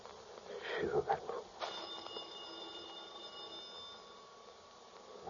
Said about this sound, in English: Shoot. The phone. No, I'm not going to answer it. Go ahead and answer it, baby.